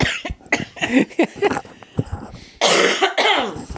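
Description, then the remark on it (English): A series of harsh coughs and throat-clearing bursts, irregular and sputtering, ending in a longer raspy hacking fit. “Pardon me while I cough.”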